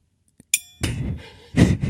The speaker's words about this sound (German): Warte, ich mach mal hier mit dem Klöppel so ein bisschen. Ja, da ist noch so ein Gong dran, so ein kleiner Gong, so ein Zen-Gong. Jetzt Vorsicht. Ich glaube, das ist der kleinste Zen-Gong der Welt.